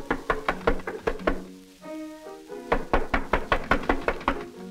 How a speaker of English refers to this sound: He does not realize that a friend has brought a stranger to meet him, and even now is standing on the porch, knocking on the door.